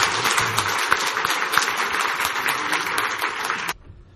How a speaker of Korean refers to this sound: 우리 목사님께 감사의 박수 한번 주십시오.